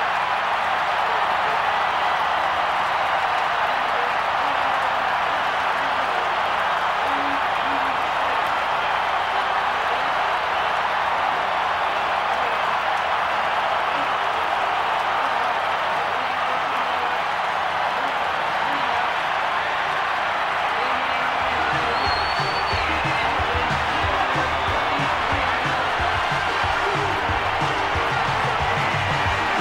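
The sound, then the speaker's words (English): A huge stadium crowd roars and cheers nonstop as the Minnesota Twins win baseball's World Series against the Atlanta Braves on a hit by Gene Larkin, with applause mixed into a dense, steady wall of noise that stays loud for the full half minute. “It's the world champion Minnesota Twins, and the crowd loves it.”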